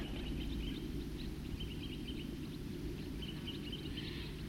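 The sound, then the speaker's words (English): A small flock of birds at Cataract Creek, one of them a red male, gives short, repeated toop calls at an irregular pace over a steady rushing background like running water. No one speaks. “Those birds are still tooping here at Cataract Creek.”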